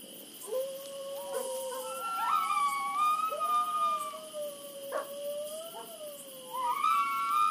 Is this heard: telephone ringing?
no